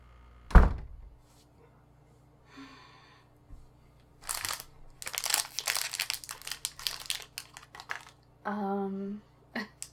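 A single dull thump, then after a pause a delivered costume package holding a clown nose is unwrapped, with bursts of loud paper crinkling and rustling that come in irregular, busy handfuls for several seconds.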